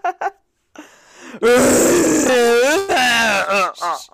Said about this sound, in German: Was höre ich denn? 2 Minuten röhrender Hirsch. Bilder aus Wildtierland, Deutsche Wildtierstifte.